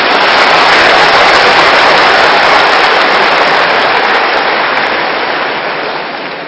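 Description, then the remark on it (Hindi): A crowd applauds in a dense, continuous wash of clapping that holds steady and loud for several seconds, then tapers off slightly at the end, with no voices over it. “ताली बजाना तो आता है ना, वो भी भूल गए।”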